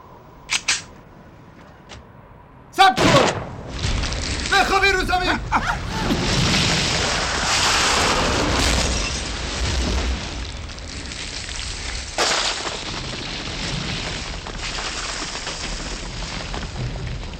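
A couple of quick sharp cracks, then a loud gunfire boom aimed at the hill opposite that swells into a long, rolling explosive roar. Another heavy blast hits partway through as the rumble carries on.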